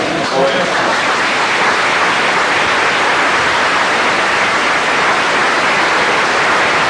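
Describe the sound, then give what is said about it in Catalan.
A large crowd in a packed, overfull hall, some standing on chairs, applauds steadily, a dense, loud wash of clapping that holds an even level throughout the seven seconds without fading or breaking. “Nous aplaudiments.”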